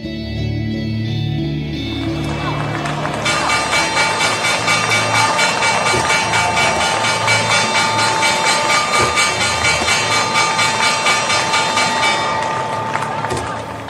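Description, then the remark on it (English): A bell starts ringing a few seconds in and keeps going, a loud, bright, continuous clangor holding steady for about ten seconds over a low rumbling background before cutting off. “You probably know what that bell means.”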